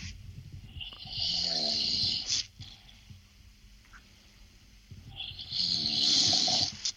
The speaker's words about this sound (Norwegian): Det høres ut som et dyr som snorker. En mann med koronavirus som snorker? Nei, det meg. Det det du som snorker? Det jeg som snorker. Ja, du snorker veldig lite brokete.